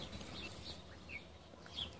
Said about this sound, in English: Now all you see is empty streets, and all you hear is birds chirping.